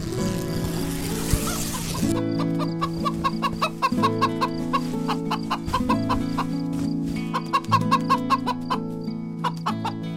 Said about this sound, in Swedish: Ett hasande och hackande från någon utanför. Det är bara hönan som vill komma in, säger Bubblan.